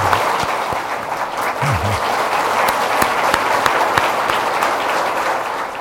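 An audience at a church service marking the church's fifth founding anniversary applauds a pastor's debut, clapping steadily for several seconds: a dense, even wash of many hands clapping at a fairly loud level, with a few sharper claps standing out and a brief murmur of voices underneath.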